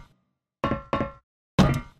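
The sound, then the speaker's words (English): Three hard metallic thuds of boots striking a metal tray, spaced unevenly, each with a bright clanging ring that decays quickly; the last hit is the loudest and harshest. A Foley recording made as the landing sound for a game character after a jump. “For this, I wanted to record my own Foley sound, so I used some boots to hit a metal tray.”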